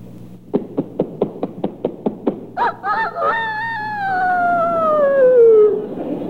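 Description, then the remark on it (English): A year-old rooster crows with no talking: a quick run of about eight even clucks, a brief warbling stretch, then one long, loud crow that slides slowly downward in pitch before cutting off. “You've got here The Life of a Rooster in four parts. 1 day, 4 months, a year, and 4 or 5 years old.”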